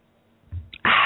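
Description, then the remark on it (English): A soft low thump, a brief clink, then a loud, steady rushing splash of water being poured, continuing without pause to the end. No one speaks. “Let me have a little water here.”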